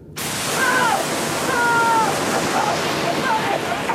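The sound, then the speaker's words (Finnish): Water cannons blast on abruptly, a loud, steady rushing spray that fills the whole clip, with faint high chirping tones gliding over the roar. “Suunnatkaa vesitykit. Vettä.”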